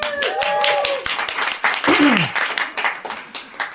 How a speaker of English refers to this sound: If you don't have a plate of food, please give yourself a round of applause.